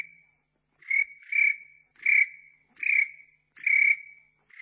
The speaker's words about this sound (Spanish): El grillo, el grillo.